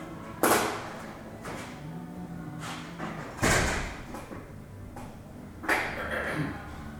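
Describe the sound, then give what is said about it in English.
Three doors shut one after another a few seconds apart, each a firm thud with a short echo, while faint voices murmur in the background. “So let me go tell them to close the doors.”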